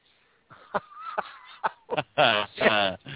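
Birds honking: a few short, sharp calls followed by two long, loud, harsh honks near the end.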